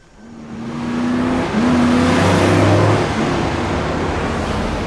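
Two pickup trucks, one a green Ford Lobo, approach from behind a bus, engines rumbling loud, swelling in as they approach, then holding a steady, throaty drone with brief shifts in pitch as they rev. No one speaks.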